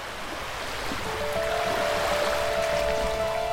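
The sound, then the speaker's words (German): Gentle water laps and washes steadily along a mangrove shoreline in a mangrove protected area on a beach in the east of Java, Indonesia, in warm afternoon sun, a continuous hiss of moving water, joined partway through by a thin, sustained tone. No voices. “Ein Strand im Osten der Insel. Das warme Licht der Nachmittagssonne beleuchtet im Wasser wurzelnde Bäume.”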